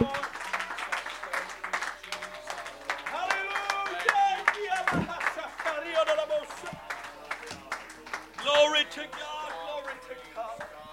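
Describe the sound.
An audience claps hands in a steady, lively rhythm throughout, with voices calling out and singing over the sharp, continuous claps.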